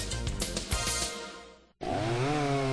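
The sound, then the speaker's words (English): An Echo chainsaw engine roars loudly, cuts out for a split second, then revs back up to a steady high-pitched whine with its pitch climbing slightly. No one speaks. “You want a chainsaw that starts easy, runs smooth, and provides years of dependable performance.”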